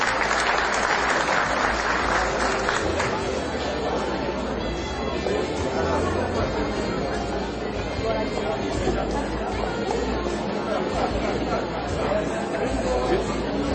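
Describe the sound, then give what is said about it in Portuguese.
Sustained applause from a large audience at a ceremony honouring recipients of the title of citizen of Formosa and a merit commendation fills the whole stretch, dense and steady clapping, with a murmur of crowd chatter mixed underneath. “Uma salva de palmas.”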